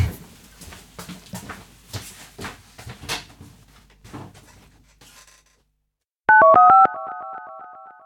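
A phone call is being dialed: a quick run of short, loud touch-tone beeps at shifting pitches, then a steady electronic tone. Before that come soft clattering handling noises and a brief silence.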